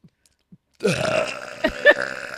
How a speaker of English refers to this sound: burps are serious. But mine get pretty bad, too. Oh, he's charging up.